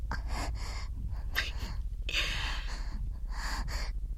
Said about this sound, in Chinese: 呼吸太急促了，就要缺氧了。那不如就更多急促的呼吸吧，让喘息把你的大脑也变成性器官吧。